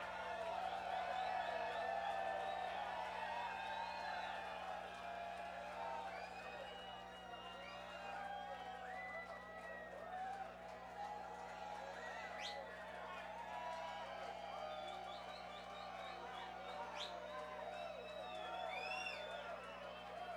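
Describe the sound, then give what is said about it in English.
A large, restless concert crowd cheers and whoops continuously for about twenty seconds, calling for one more set, with scattered shouts and whistles rising over a dense wall of clapping and chatter, loud. “A restless crowd, that wasn't enough for you, huh?”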